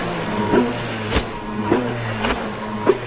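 A jet ski engine runs hard at full throttle about 100 feet from shore, past the slow speed zone, as the rider throws it through high-speed spins and turns: a steady, rough low drone broken by sharp bursts of noise roughly every half second, like the hull slapping water. No one speaks.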